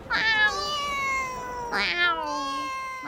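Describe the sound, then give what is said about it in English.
A cat meows twice, fairly loud: a long, drawn-out wail, then a second cry with a rising-falling pitch. Nothing else is audible. “True, but cats do.”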